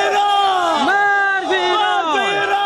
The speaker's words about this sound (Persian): شعارهایی که علیه ایران سر داده می شود از سوی باشندگان ولسوالی سرحدی کوهسان ولایت هرات است. از محلی که این شعارها بلند می شود تا نقطه سرحدی میان افغانستان و ایران تقریبا 20 کیلومتر فاصله دارد.